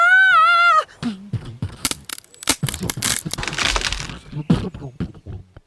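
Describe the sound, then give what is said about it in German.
A wavering, whistling tone glides briefly, then gives way to a loud jumble of crashing, cracking and thudding impacts, an irregular flurry of hits as a leaf crashes straight into a large tree. “Da krachte das Blatt samt Aponi direkt gegen einen großen Baum.”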